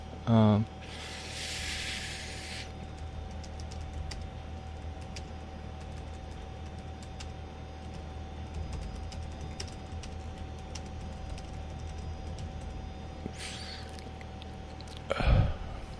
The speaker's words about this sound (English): just typing in a message here on YouTube, not YouTube, Facebook